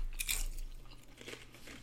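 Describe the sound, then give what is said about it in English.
A crisp bite crunches sharply into a slightly burned crunchwrap, followed by a few softer crackling chews, with no talking. “I'm also feeling this crunch wrap.”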